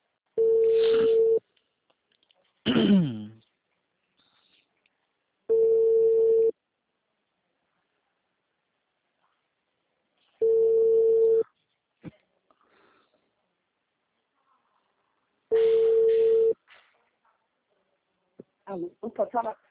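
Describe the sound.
A telephone ringback tone while calling a client's phone: four steady, mid-pitched one-second tones repeating about every five seconds, with silence between, and a voice starting to speak at the very end.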